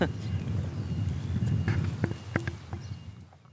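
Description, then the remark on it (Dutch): Footsteps of people walking around in silence at a modern monastery in Friesland during an Easter celebration: a handful of irregular thuds and scuffs over a low background rumble with faint murmuring. “Dan rennen wij in stilte weer om.”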